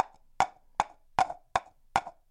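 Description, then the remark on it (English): Hollow wooden clops from the halves of a dried coconut shell, its meat scraped out, struck against each other as a percussion instrument: six sharp knocks in a steady, slightly uneven rhythm like hoofbeats, with a resonant midrange tone and no voices. “I know it sounds like horses, but it's a coconut shell, where I scraped out the coconut meat, dried it out, and cut it in half. And I am striking it against itself.”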